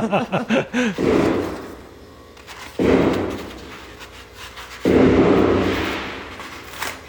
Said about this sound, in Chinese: 这是枪声吗？ 这个应该是炮声， 鞭炮声。 对， 昨天晚上我可是有一点点小紧张， 因为你听它是一下一下的，